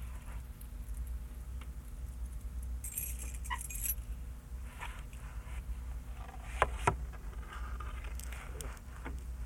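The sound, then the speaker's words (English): Keys jingle and clink as they are handled, in scattered bursts with a couple of sharper metallic clacks, over a steady low rumble of background noise. “Check if I can make the keys go around.”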